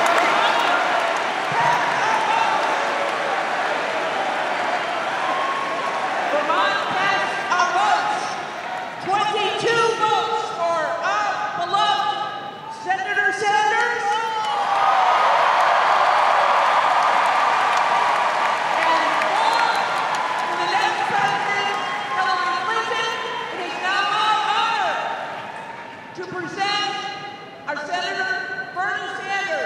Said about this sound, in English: You can hear the excitement in the crowd.